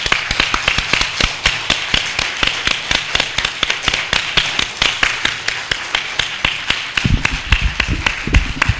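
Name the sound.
audience clapping hands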